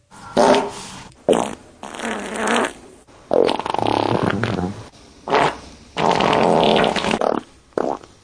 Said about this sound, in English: I guess I can play this. Do we have any nice videos to play? This one says 60 chunky farts. Let's see what's going on up in here.